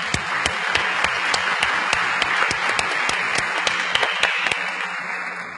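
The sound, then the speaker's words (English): A room full of people at a council meeting applauds steadily, dense clapping with sharper individual claps standing out, sustained at an even level for several seconds before tapering slightly at the end. “Let's give the hand of applause.”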